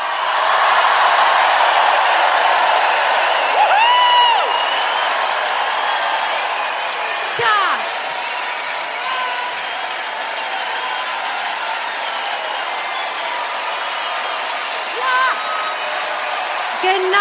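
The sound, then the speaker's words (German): A large crowd at the Waldbühne in Berlin cheers and applauds in a loud, sustained roar, with scattered whistles and high shouts rising above the dense clapping throughout. “Berlin, seid ihr bereit? Ich will Alarm hören.”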